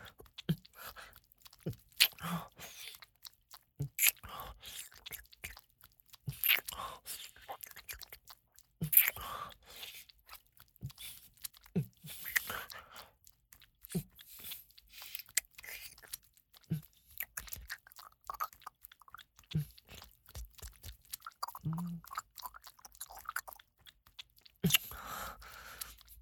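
kissing sounds

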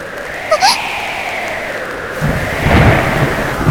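loud thunder

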